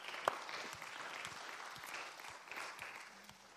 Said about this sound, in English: Amen. Can we honor the Lord and just say thank you through a clapping of hands?